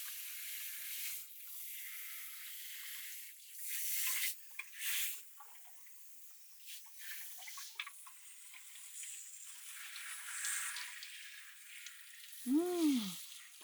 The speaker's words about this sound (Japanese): だいたい洗えたみたいなんで。ではでは、シャワーで流していきます。